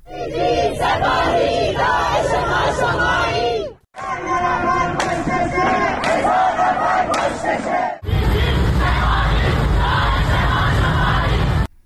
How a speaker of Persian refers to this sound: در شهرک اکباتان جمعی از مردم در اعتراض به اعدام محسن شکاری در تهران و مجید رضا رهنورد در مشهد در محوطه این شهرک اقدام به روشن کردن آتش و برپایی تجمع اعتراضی کردند.